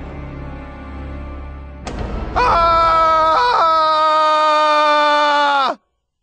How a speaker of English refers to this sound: I wanted to start this book with a scream of horror. That's just the first scream. Don't worry, there will be plenty more.